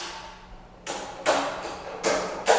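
The door of a simple shrine being opened in a village south of Colombo: a few rough, rattling scrapes and knocks in quick succession, growing somewhat louder toward the end, with no voices.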